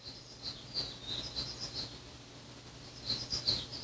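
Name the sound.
small bird chirping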